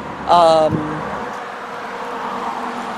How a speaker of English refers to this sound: But again, and you can tell there's still a lot of traffic, which is unfortunately not the not the most conducive place or timing.